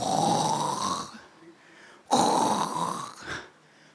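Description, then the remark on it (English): A person imitates loud snoring with their voice, two long rasping inhaled snores separated by a short pause, prominent with no other talking. “Snoring to glory. Snoring and sleeping.”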